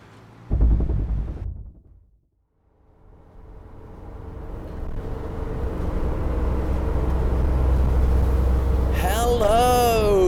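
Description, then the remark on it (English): A car cruising at speed on a motorway in the UK at night, its low, steady road rumble and engine drone swelling after a brief thump and a moment of near silence, with a voice starting up right at the end. “I am driving a car. Yes, recording this at the same time. It's night time, I'm in the UK on the motorway,”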